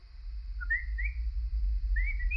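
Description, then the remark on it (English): Short, high, rising chirps, exactly like a bird, come through a bedroom door at night in two little bursts, each a quick pair of whistle-like tweets, over a steady low hum, with no voices. “It wasn't a squeak, as I'd first thought. It was more like a chirp.”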